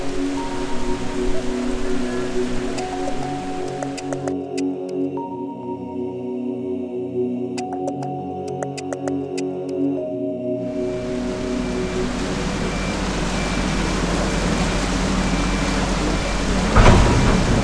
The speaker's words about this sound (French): on entend l'eau qui coule, c'est tout simplement le passage de l'écluse, la porte du haut qui laisse passer de l'eau, donc le bateau monte, et quand il arrive au niveau de l'eau supérieure, bah, les portes vont s'ouvrir et on va pouvoir passer.